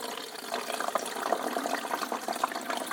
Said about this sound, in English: Right, pour filtered water into the pot, tank. Yeah, because these places really need the filters because the water's seriously limey. Very hard.